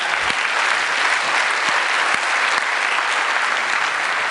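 Steady, loud audience applause for a man being called up to the stage to play a game, a dense wash of many hands clapping at an even level with no voices standing out.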